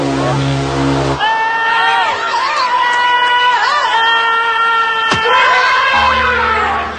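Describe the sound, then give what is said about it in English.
A game show contestant lets out a loud, drawn-out yell with a wavering, rising and falling pitch, lasting about five seconds, set against a busy, noisy background. “Interesting yell.”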